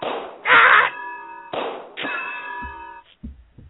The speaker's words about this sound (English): Oh, I got hit over the head.